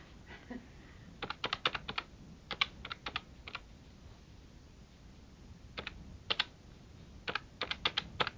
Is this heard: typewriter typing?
yes